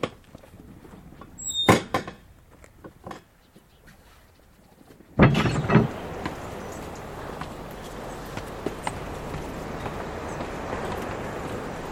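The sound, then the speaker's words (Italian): A house door in the village of Ginostro on the island of Stromboli creaks with a short, high squeal as the volcano trembles, followed a few seconds later by a louder bump that leaves a steady rumbling noise in the background. “Quand le volcan commence à trembler, moi j'entends la porte qui grince à la maison.”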